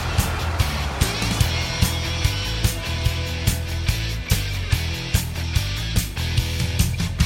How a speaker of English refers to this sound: This is your traffic bed.